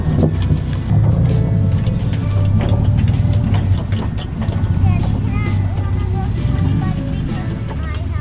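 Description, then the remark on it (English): A moving vehicle drives away down the road, its engine and road rumble droning steadily for the whole stretch, loud and continuous, with faint indistinct voices mixed in. “Driving away down the road.”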